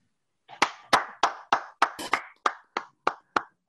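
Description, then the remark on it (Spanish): Steady hand clapping, about ten crisp, even claps in a regular rhythm, fairly loud, with no voices. “No, estoy aplaudiendo.”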